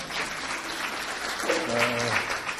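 An audience claps steadily for two presenters in a dense, continuous patter of many hands, with a faint voice briefly rising through the applause partway through.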